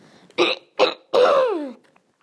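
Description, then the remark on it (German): A fairly loud throat clearing: two short rasping bursts followed by a longer, voiced clearing that slides downward in pitch, with no talking. “Wieso muss ich mich jetzt die ganze Zeit räuspern? Mal kurz, ich räusper mich kurz.”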